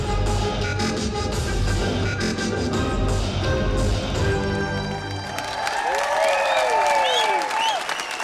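Sustained, dense applause from a large audience in Berlin at the end of a dance show, after dancers performed to Beethoven's Symphony No. 5. Cheers and whoops rise over the clapping, and some high-pitched yells sweep up and down in the latter half.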